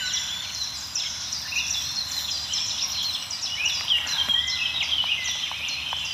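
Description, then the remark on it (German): Crows calling in a forest, their cries layered over a busy, continuous chorus of other birds, steady, with no voices. “Also da kommen noch die Krähen ins Spiel jetzt.”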